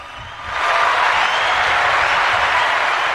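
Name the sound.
applause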